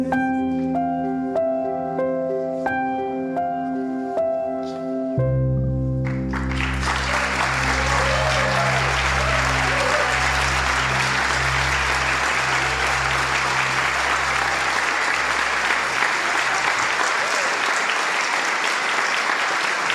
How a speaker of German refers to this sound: Wow, Kids, das war wirklich der Hammer. Ihr habt diesen Applaus so verdient. Ich bin richtig stolz auf euch.